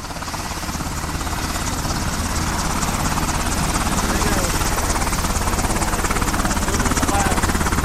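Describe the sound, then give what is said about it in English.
A helicopter's engine whines steadily while its rotor beats in a fast, continuous chop, loud and sustained throughout, growing slightly stronger toward the end, with faint voices mixed beneath. “No, that's a Ryan helicopter.”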